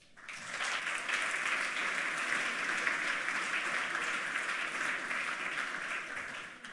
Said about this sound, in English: So now is the talk about hacking and computer science brought to you by Sergey. And a warm applause for Sergey.